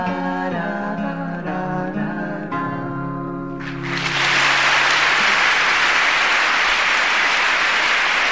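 A song closes on a few sustained chords, then a loud, steady wash of audience applause takes over and continues through the remaining seconds without any talking.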